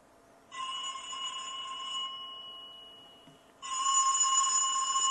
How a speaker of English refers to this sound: I'm going to call my cell phone so we can verify that our ringer is working.